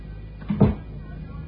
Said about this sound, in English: Close the door.